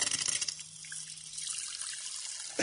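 Carbonated water pouring into a glass of red cabbage solution, with a sputtering, gurgly burst at the start settling into a steady bubbly hiss for a couple of seconds; no one talks.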